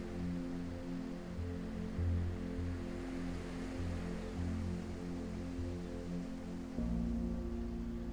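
A steady, rushing wash of ocean surf, heard from a building's large lobby with many windows, rising and falling slightly, with a low droning hum running underneath and no voices.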